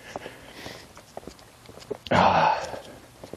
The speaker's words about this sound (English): It's chilly this morning. My nose is running, so I'm probably going to sniff a lot.